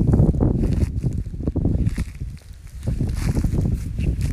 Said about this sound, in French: Vous entendez peut-être le vent violent. Le vent violent est un vent urbain qui, en campagne, se caractérise par sa violence.